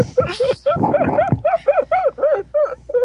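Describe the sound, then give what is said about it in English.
A person imitates a dying seal, letting out a rapid string of strained, honking barks, loud, that settle into an even, pulsing rhythm toward the end. “turns into a dying seal and oh god.”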